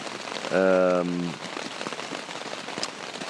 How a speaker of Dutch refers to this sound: Alleen hadden we niet verwacht dat het de hele nacht zou regenen.